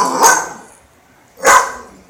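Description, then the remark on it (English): Two loud, sharp barks from Aspen, a dog protecting a puppy, spaced just over a second apart, clear with no talking over them. “Aspen's trying to protect the puppy.”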